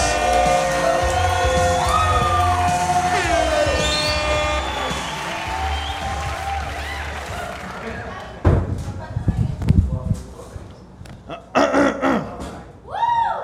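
Sustained tonal, sweeping sounds give way to an audience bursting into loud applause and cheering to welcome a performer for a musical act, with claps and shouts swelling in uneven waves over several seconds.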